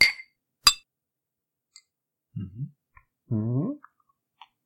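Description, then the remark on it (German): Glasses of Astra beer clink together twice in a toast in quick succession, bright, followed by a quiet pause, faint mouth sounds and a short low hum-like vocal sound. “Ich sag mal Prost”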